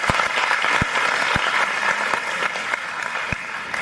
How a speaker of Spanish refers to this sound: 173 hermanas estuvieron en el retiro. Por favor, un aplauso, sí, Señor.